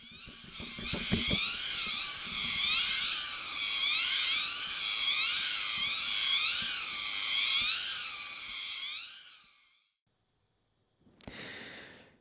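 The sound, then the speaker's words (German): A loud, shrill cicada buzz fills the jungle at midday in hot weather like an alarm, its tone warbling up and down in steady repeating waves for about nine seconds, then cutting off before a brief final burst. “Hier ist echt Rambazamba im Urwald. Ich stelle vor die Alarmanlagengrille.”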